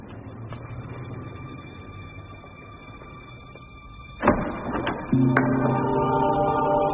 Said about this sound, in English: Now listen. To the traffic and the shopping.